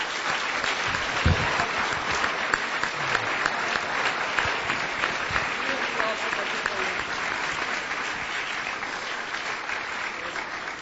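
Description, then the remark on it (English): Sustained audience applause for the participants of a dialogue, a dense wash of many hands clapping at steady loudness for about ten seconds, with a few faint voices mixed in. “So why don't we give them a round of applause?”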